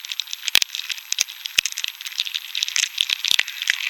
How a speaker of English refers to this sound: So what did you hear when you first knew you had success? The first sounds I heard was just sort of a kind of stirring, crackling noise that turned out to be the beetles moving.